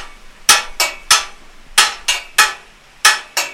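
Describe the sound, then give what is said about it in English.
Loud metallic clanks ring out as someone strikes a metal gate about eight times in an uneven, roughly paired rhythm to call sheep, each hit bright and ringing briefly before fading. No voices are heard. “So however far away the sheep are, as long as they can hear me clankling on the gate, they'll present themselves and they'll come down at a good trot.”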